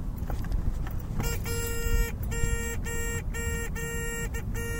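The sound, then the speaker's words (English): A car horn honks repeatedly in short bursts over a steady low engine rumble, loud, starting about a second in and continuing to the end. “Yep, that means beep beep. Get out of the way.”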